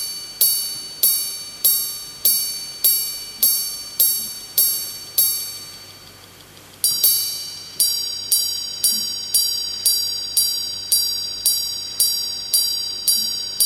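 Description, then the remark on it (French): A Greubel Forsey grande sonnerie watch, made at the manufacture in La Chaux-de-Fonds, chimes a steady series of bright, high metallic strikes, each ringing out and decaying before the next. A short pause splits two runs of evenly spaced notes, with no talking. “Cette montre, c'est la grande sonnerie de Grebel-Forcet. Avant d'avoir des explications, écoutez ça.”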